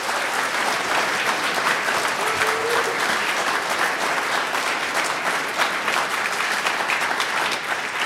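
crowd, audience clapping

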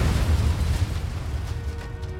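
sound effect, bomb explosion sound effect

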